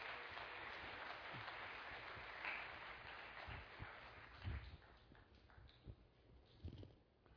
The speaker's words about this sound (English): Could we give him a nice round of applause as he comes out?